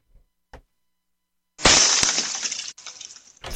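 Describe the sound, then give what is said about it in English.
A couple of faint taps, then a loud shattering burst with a long crackling, glassy tail that briefly cuts out and resumes, like a meteorite breaking apart. “One of our listeners texted in the shattering meteorite sound could be your okay, a stat of the show sound effect.”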